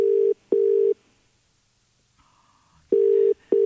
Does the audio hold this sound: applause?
no